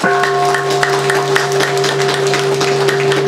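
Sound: audience applause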